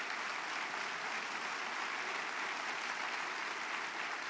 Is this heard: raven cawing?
no